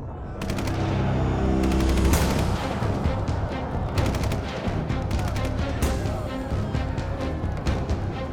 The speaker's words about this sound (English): They came suddenly, ripping open the quiet with the sound of gunfire. Soldiers for Uganda's National Resistance Army were everywhere.